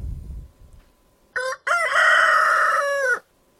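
A rooster, one of the chickens roaming the downtown streets of Oviedo, crows once, loud: a short clipped opening note, then a long, drawn-out, strained call that holds for over a second before cutting off. No one speaks.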